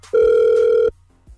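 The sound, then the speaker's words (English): A single steady ringback tone of an outgoing phone call placed from a radio station, loud, lasting under a second, followed by silence and a faint click. “So we're going to call her right now, hope that she picks up the phone, and smooth the situation over, all right?”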